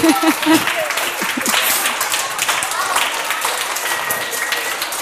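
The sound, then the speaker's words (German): An audience breaks into steady, loud applause, a dense crackle of many hands clapping at once that holds for several seconds, with a few voices calling out briefly at the start. “Ein Applaus für den Saukerl.”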